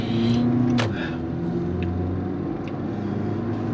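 A steady, heavy engine rumble from big trucks passing outside the window, with a low droning hum that swells slightly early on and then holds. No one speaks.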